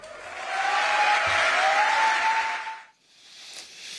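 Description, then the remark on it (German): A large crowd at an AfD rally cheers and applauds loudly in a sustained roar at a speaker's insults against the German left, with a shrill whistle cutting through, then the noise briefly drops before clapping and cheering pick up again. “Sowas wird bejubelt, ja?”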